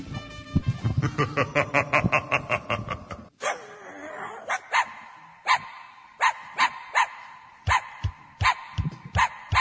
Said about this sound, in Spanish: Si tu perrito aúlla o llora, no es que quiere ir a la plaza ni está en celo.